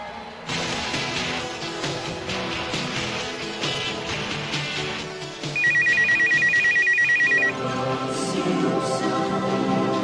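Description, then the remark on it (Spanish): A telephone rings with a rapid, steady electronic trill in bursts over a backdrop of busy music, loud, cutting in for a couple of seconds before the music carries on. “Contesta rápido tu teléfono porque son tus amigotes para invitarte. Ah, alguien llama.”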